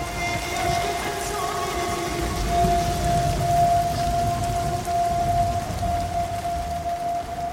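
Steady, heavy rain pours continuously throughout, a dense hiss of drops hitting the ground, with a faint sustained tone and low rumble underneath. No one speaks.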